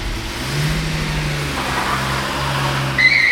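A car engine runs steadily and then revs as the vehicle pulls off, its low hum holding at moderate loudness before a brief high squeal near the end. No one speaks.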